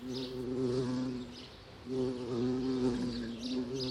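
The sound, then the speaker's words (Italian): A steady insect buzz drones on, wavering slightly in pitch, fades briefly in the middle, then swells back just as loud. No voices are heard. “Ronzando gioiosa tra i fior di libri, Tecla si diverte a osservare certi buffi cuccioli d'uomo”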